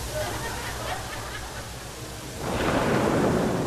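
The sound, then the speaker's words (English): Recorded heavy rain and thunder playing from a CD: heavy rain hisses steadily over a low, rolling rumble of thunder, and the downpour swells noticeably louder and fuller toward the end. “And all of a sudden, I hear the thunder. I'm like, wow, it's really raining hard out there.”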